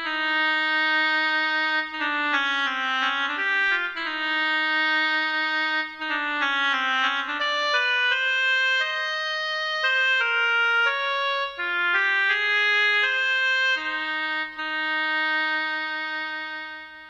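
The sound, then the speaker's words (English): A solo oboe, playing the part of Bruce the Duck, plays a flowing melody with a bright, reedy tone, moving through short phrases with brief breaths between them at a steady, fairly strong volume, with no talking. “The part of Bruce the Duck is played by an oboe.”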